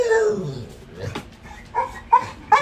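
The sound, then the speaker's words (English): A dog gives an excited, high whine that slides down, then a few sharp yips and short barks in quick succession, loud with a faint voice underneath. “Damn, my dog, he excited too.”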